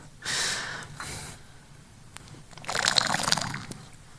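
Two sharp breathy intakes, then a moment of quiet and a wet slurping gulp of water, with a soft swallow fading out at the end. No talking.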